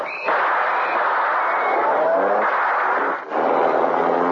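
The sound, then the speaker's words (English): A car engine roars steadily as the car drives away, a thick, broad rumble that holds at a loud level, with a brief dip partway through before the driving noise resumes. “do you want me to drop you off at the next convenient corner? No. I'll stay in the car.”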